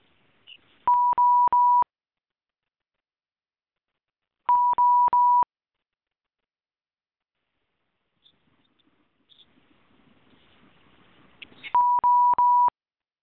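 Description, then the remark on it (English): Three bursts of rapid electronic beeps, each a quick run of four identical tones at one steady pitch, separated by silence with faint rustling noise on a phone line before the last burst. “Well, I hear lots of beeps, but nobody's saying anything.”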